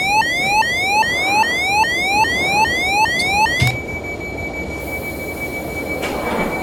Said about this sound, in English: So, what I did there was I pushed left shift, that opened the doors, and then you heard that alarm. That's to tell you you've opened the wrong side.